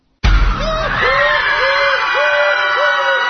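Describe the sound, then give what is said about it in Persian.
Loud screaming bursts out suddenly and keeps going over a dense, noisy crowd din, with a string of high wavering cries repeating at a steady pace, intense. “چه خبرته چه خبرته؟ اینا برای شما ترسناکه، چه جیغ جیغ میکنی؟”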